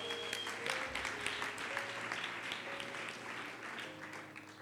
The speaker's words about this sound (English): Clap hands for yourself.